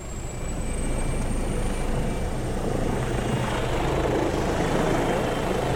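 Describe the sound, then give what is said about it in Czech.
A rescue helicopter's engines, just started before take-off, run steadily: a loud continuous whine and turbine roar with a dense low throb, holding constant for several seconds with no voices. “První konkrétnější info dostává, když už jsou nastartované motory.”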